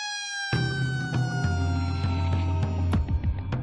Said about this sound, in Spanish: Esa sirena indica que comienza la vida en la prisión. Que los funcionarios han hecho el primero de los tres recuentos diarios y que todos los internos han pasado la noche en sus celdas.